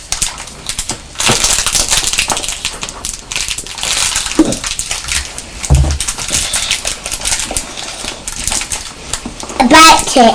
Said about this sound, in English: Don't bite the paper